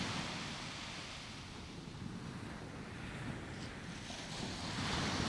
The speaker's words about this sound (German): Das Sonnenlicht glitzert in den Wellen. Eine nach der anderen findet ihren Weg zum Strand.